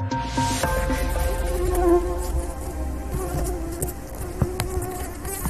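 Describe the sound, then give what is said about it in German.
A steady insect buzz with many overlapping whining tones from a swarm of some 8 million tiger mosquitoes, droning continuously without pause, loud and dense throughout. “eine summende Taskforce von 8 Millionen Tigermücken”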